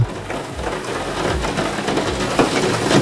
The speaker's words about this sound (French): Et alors, qu'est-ce qu'on a d'autre comme bruit qui détend? Il y a Nathalie, Morgan et Gwendoline qui nous disent la pluie sur le Velux.